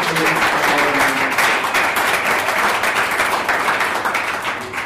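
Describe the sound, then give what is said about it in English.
An audience applauds Galvanize, Thirsty Monk, Sifted, 10-10-10 and the Kelley School of Business steadily for about five seconds, a dense, loud patter of many hands clapping at once with no pauses. “Let's clap it up for the amazing thank you.”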